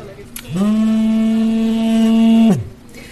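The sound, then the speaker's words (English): A drone detector alarm at an aid distribution centre in Kherson sounds one loud, steady buzzing electronic tone for about two seconds, sliding up at the start and dropping away at the end, warning of at least four drones overhead, with no one speaking. “The sound you hear there, that's a drone detector telling us that there are drones overhead.”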